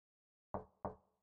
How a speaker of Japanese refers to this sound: ノックちゃんとしたじゃん。